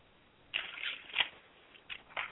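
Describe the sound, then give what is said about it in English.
Crisp riffles of a deck of cards being shuffled, in two quick bursts of papery flutter and snapping with a short pause between, no talking. “I'm going to sit there and shuffle these cards, and I want you to tell me when to stop shuffling.”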